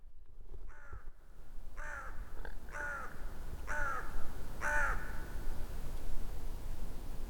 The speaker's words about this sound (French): Impressionnant cet accueil de ce corbeau, tout seul. Une grande solitude du corbeau à Elfkarleby, chargé d'accueillir les voyageurs étrangers.